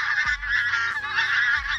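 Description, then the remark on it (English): A flock of pink-footed geese honking nonstop, many overlapping nasal calls forming a loud, busy chorus, with a few low rumbling thumps underneath and no one talking. “It's possible that the pink-footed geese followed their lead, which could prove to be a rare example of cultural knowledge being transmitted between species.”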